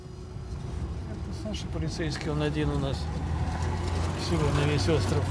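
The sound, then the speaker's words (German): A steady low engine drone from a car driving on the Solovetsky Islands toward Sekirnaya Gora runs throughout, with people talking over it inside the vehicle. “holt mich mit dem Auto ab.”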